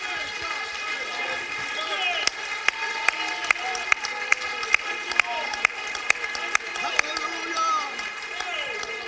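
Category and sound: crowd, audience clapping hands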